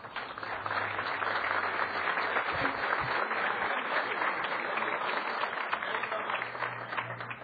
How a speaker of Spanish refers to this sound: ya vamos a comenzar entonces con este comienzo de ciclo y el gusto enorme de tener junto a nosotros para ser el disertante hoy al ingeniero Roberto Kremerman, ministro de Industria, Energía y Minería, a quien ya le pido un fuerte aplauso.